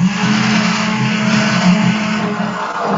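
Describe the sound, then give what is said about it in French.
An immersion blender runs steadily for a few seconds, a loud, continuous motor whir with a low droning hum and slight fluctuations in tone as it mixes two ingredients together in a recipe, with no talking. “Alors donc là tu vas te servir d'un mixeur plongeant et tu vas mixer pour bien associer les deux quoi.”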